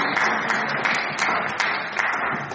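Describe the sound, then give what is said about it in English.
A crowd applauds steadily throughout, a dense wash of many hands clapping at once, moderately loud, with slight swells but no voices. “I think that matters to throw some applause.”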